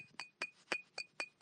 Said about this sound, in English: The bottle, the glass bottle,